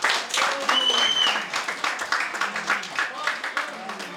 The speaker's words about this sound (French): Applaudissez-le bien fort, s'il vous plaît.